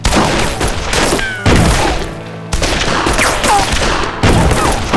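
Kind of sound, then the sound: sound effect, gunfire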